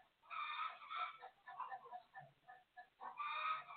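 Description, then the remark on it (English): Roosters crow loudly while hens cluck in between, a busy chorus of poultry with long strained crows at the start and end and choppy clucking in the middle. “All my roosters and hens, they going off.”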